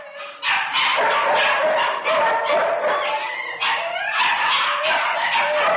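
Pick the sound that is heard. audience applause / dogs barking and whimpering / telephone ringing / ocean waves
dogs barking and whimpering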